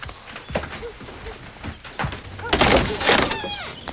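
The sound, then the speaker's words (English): A bedroom door is opened by a man who has got out of bed and walked to it: a few soft knocks and clicks, a broad rattling rush, then a short creaking squeal as it swings, all fairly loud with no clear talking. “He gets out of bed and walks to the door in his boxers, rubbing his arms to warm himself.”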